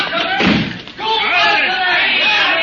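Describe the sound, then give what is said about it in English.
A heavy door is slammed shut to be barred, with one loud thud, and people start talking right after the impact. “Look around while I bar the door.”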